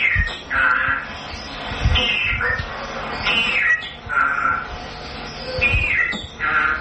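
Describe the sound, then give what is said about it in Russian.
A parrot squawks repeatedly and harshly, about eight loud, raspy calls in quick succession, with faint low knocks and rustling underneath and no one talking. “пол у некоторых попугаев определить очень и очень затруднительно.”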